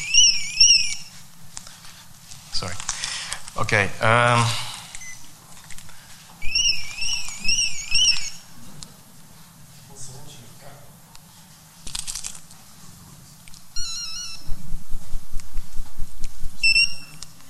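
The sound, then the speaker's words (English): A car alarm on the speaker's own car sounds in repeated bursts of high, warbling electronic tones, later switching to rapid pulsing chirps, with a few words of speech and some rustling between bursts. “Sorry, it seems it's my car. Somebody is stealing it, maybe.”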